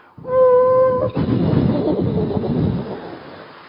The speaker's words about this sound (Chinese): 相应的，两辆火车呼啸而过，驶入既定的轨道。